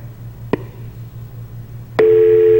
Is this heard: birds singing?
no